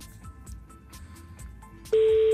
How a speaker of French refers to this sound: Première sonnerie. Deuxième sonnerie, comme Jean-Pierre Foucault, il faisait ça.